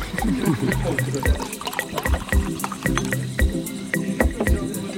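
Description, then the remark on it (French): Liquid pours and splashes into glasses for a toast, with light clinks and taps scattered throughout and murmuring voices underneath, steady. “Et on va trinquer à la crypto.”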